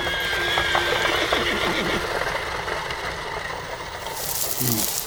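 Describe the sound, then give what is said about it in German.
Horses whinny amid a steady clatter of hooves and rolling wagon noise as horses pull wagons loaded with young trees out of a forest, a busy, continuous bustle that stays even in loudness throughout. “Sie wurden vorsichtig auf Wagen gelegt und Pferde zogen sie von dannen zum Wald hinaus.”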